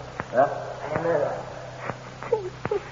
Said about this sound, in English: Hey, who's making that noise? …, stop that whimpering.